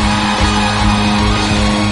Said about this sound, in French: Si tu aimes Jésus, crie ouais! Crie ouais!